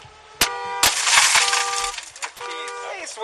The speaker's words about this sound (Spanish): Bueno, es el sonido real de una patrulla de la policía rompiendo las ventanillas para poder sacar al niño o al animal de un coche donde estaba sufriendo ese golpe de calor.